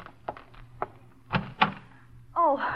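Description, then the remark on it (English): A few dull thumps and clicks as a front door is unlatched and opened after the doorbell rings, moderately loud, followed at the end by a person starting to speak. “You find yourself awake, preparing for their questions as you hurry to the front door.”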